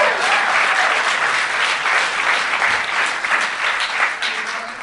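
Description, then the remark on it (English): Steady audience applause at the Vancouver Comedy Festival fills the whole stretch, a dense wash of many hands clapping at once, fairly loud, holding an even level without any talk over it. “Hold your applause till the end.”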